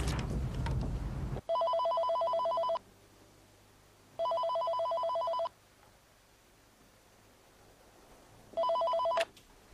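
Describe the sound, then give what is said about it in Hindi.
A phone ringing on an outgoing call: three electronic ring bursts separated by long silent gaps, following a short burst of clattering noise at the start. No one speaks. “क्या मैं एक फोन कर सकती हूँ?”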